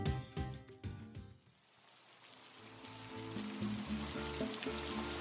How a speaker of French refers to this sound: Il pleut des cordes, mais ils sont encore dehors. La pluie ajoute du drame à la scène qu'ils interprètent.